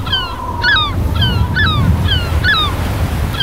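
Stormy sea waves roar steadily and loudly, while a bird, likely a seabird, cries sharply over the surf about six times in quick, regular succession. No one speaks.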